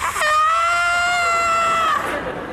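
A single loud, piercing scream from a woman next door, high-pitched and held steadily for almost two seconds before cutting off, with no talking.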